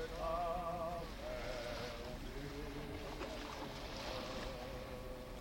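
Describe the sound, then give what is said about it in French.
Waves crash and surge against a rolling ship on a livid ocean in a steady, loud roar of rushing water, with men's voices, some fine and some hoarse, wavering and singing faintly underneath. “Le navire roule sur un océan livide. Les hommes chantent. Les vagues s'écrasent.”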